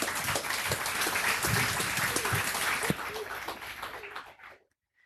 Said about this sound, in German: Einen Applaus bitte.